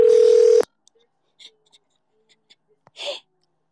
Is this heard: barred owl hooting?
no